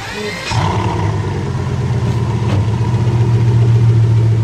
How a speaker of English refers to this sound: The Veyron made its way onto the track. From where I was standing, on the back straight leading into turn one, I saw the black and red coupe streak by, sounding like some chimera of an F-18 and a rhinoceros. It cleaved the air.